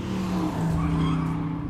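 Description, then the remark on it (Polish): The tires of a company car skid with a sustained, loud squeal over a roaring engine during hard driving, one continuous burst with no voices. “Pani, nie tak ostro.”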